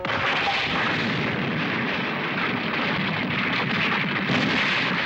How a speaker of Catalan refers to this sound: Amb un dels cops l'envia directe contra les columnes que sostenen un dolmen que s'esfondrà.